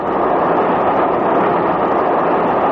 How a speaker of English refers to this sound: Did you hear that rattle of the wheels just now? Feel the whole train sway slightly? I did notice something. Why? Those were the crossover points 1 mile south of the Clayton Tunnel.